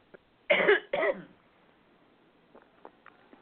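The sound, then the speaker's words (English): Two harsh coughs in quick succession, the second slightly shorter, as someone with a frog in their throat clears it, moving away from the phone, followed by near silence with a few faint clicks. “I'm going to move away from the phone for a minute and give a good cough, see if I can get rid of it.”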